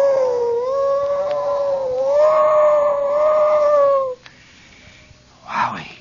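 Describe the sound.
A voice imitates a siren with one long, steady wail that rises slightly in pitch for about four seconds, then cuts off, followed by a brief breathy sound.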